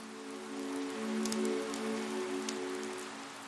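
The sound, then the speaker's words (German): Gentle, warm light rain, not a storm, patters steadily and softly in an old town's narrow cobblestone lanes under thick grey clouds, a continuous hiss of fine drops with occasional brighter taps, over a low sustained tonal hum. No voices. “Es ist ein ganz leichter Regen, warm und einladend. Kein Sturm, sondern eher wie ein sanfter Vorhang aus Wasser, der die Welt um dich herum in einen ruhigen, friedlichen Dunst hüllt.”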